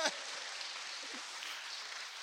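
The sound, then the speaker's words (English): A crowd imitates a rainstorm, producing a steady, dense hiss of pattering like rain falling. It stays at an even, moderate level throughout, with no one talking. “What we just did there was we created a kind of a rainstorm.”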